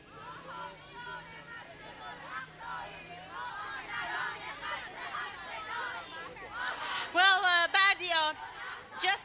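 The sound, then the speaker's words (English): A large outdoor crowd of women and children at a rally in support of the Palestinians, at Palestine Square in Tehran, Iran, across from the UN office, murmurs and chatters continuously, then voices rise into loud, rhythmic collective chanting of slogans near the end, energetic. “We've been witnessing huge crowds gathering at Tehran's Palestine Square.”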